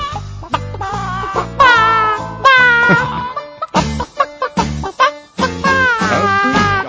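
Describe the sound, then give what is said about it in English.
On a radio program, a person imitates a chicken, producing a run of choppy, rhythmic clucks and a few drawn-out squawking bawks with wavering pitch, loud and alone. “You don't think I can do that chicken noise? Watch this.”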